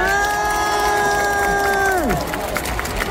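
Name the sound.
audience applauding and cheering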